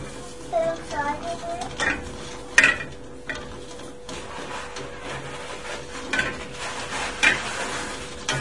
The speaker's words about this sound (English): Boiling hot water. Look at all the steam roofs. Oh yeah. Boiling that.